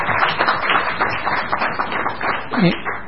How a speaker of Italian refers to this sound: Beh, direi che invece di gazzara c'è stato un applauso, per cui ben venga questo suo intervento.